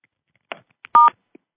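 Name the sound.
telephone keypad tones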